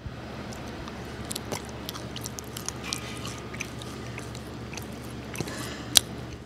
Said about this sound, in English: That chewing is obviously going to combine saliva into the bread. Saliva is body temperature, so it's warmer than room temperature. So as you're warming the bread, it's going to become more flavorful.